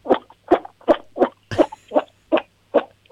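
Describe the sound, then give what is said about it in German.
A 7-year-old girl from Lower Austria imitates a toad's croak: about nine short, throaty croaks in a steady rhythm, fairly loud, with no talking in between. “Okay, das war die Kröte.”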